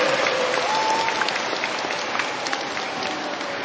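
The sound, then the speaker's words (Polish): A crowd at the Sanctuary of Our Lady of Grace in Krzeszów, Poland, claps steadily and warmly, a dense wash of many hands at an even volume for several seconds, with no voices standing out. “Nasze pozdrowienia przesyłamy z Krzeszowa, z Sanktuarium Matki Bożej Łaskawej, a do pozdrowień dołączamy gorące oklaski.”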